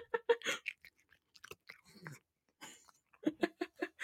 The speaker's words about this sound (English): Get ready for some kitty ASMR because everybody needs Jazz's crunches.